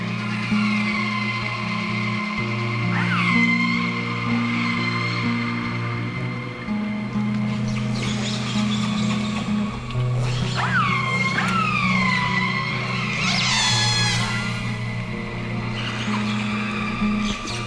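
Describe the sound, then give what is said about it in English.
Whale calls recorded underwater with a hydrophone: repeated high, squealing whistles that swoop up and down in pitch, rising over a steady low hum and murky background noise, clear. “They are wonderful sounds to listen to, especially at night when we're camped or anchored in our boat and we have our hydrophone, underwater microphone, hanging off the side of the boat.”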